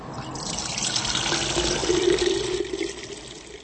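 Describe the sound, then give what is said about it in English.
A barman in the Czech Republic pours young wine (burčák), a cloudy mustard-colored liquid, steadily from a plastic keg into a glass for a few seconds, a continuous trickling and splashing with a rising fill tone, over a faint background. “A barman pours a cloudy mustard-colored liquid from a plastic keg into a glass.”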